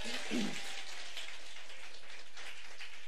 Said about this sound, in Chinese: 所以你要给圣灵掌声是可以的。